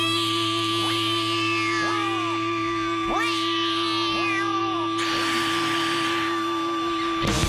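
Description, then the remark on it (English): A voice imitating a cat meows about five times in a row at the start of a 1997 song, each cry sliding up then down in pitch, over a steady humming drone with a brighter wash near the end. “It's really apparent when you're wearing headphones and you hear that ring, and it's obviously somebody imitating a cat.”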